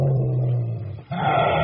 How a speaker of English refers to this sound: That dog sounds angry.